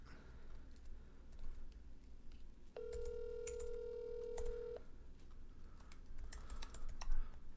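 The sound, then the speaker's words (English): An outgoing phone call to Mason Ginsburg rings once: a steady, mid-pitched electronic ringback tone lasting about two seconds, with scattered keyboard tapping and clicks around it and no one speaking. “Mason, you need to pick up your phone.”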